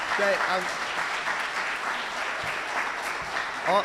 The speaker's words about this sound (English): Can we just give my parents a round of applause real quick? Thank you.